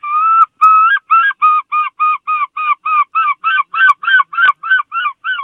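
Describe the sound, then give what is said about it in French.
A human voice imitates a herring gull's call: two drawn-out wails, then a fast series of about a dozen loud, nasal, laughing yelps, unaccompanied. “Alors ça, c'est le goéland argenté, c'est un grand classique, c'est l'oiseau des bandes-sons de la mer et des rivages.”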